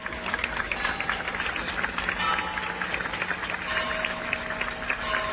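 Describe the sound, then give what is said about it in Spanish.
Sustained, dense applause from hundreds of people gathered in front of the Magdalena church in Olivenza, an ovation lasting minutes at the farewell to Guillermo Fernández Vara, steady and unbroken throughout, with a faint murmur of voices beneath the clapping. “Una ovación cerrada que se alargó por minutos como si fuese eterna.”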